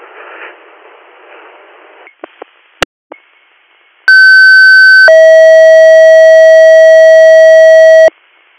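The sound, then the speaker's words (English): A loud two-tone dispatch radio paging alert for an EMS unit: a short high steady tone shifts into a longer, lower steady tone, following a stretch of radio static and a few sharp clicks. “Greer Valley EMF, disregard your tones.”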